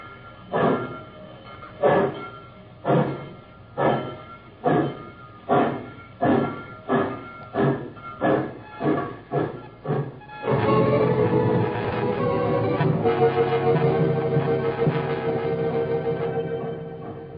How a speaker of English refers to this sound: The train pulled out. And the tall girl and a teacher waited in the rain for the Jim Crow coach.